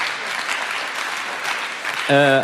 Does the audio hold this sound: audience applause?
yes